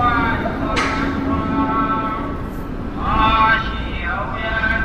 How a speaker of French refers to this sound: Alors là, autre ambiance, vous entendez cette fois le vendeur ambulant de baozi qui passe aussi dans ma rue. Alors c'est beaucoup plus rare, mais je l'ai entendu hein, comme ça deux, trois fois, ce vendeur de baozi.